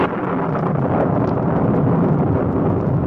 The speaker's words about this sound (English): And the wind blew. And flashes of lightning shot across the sky.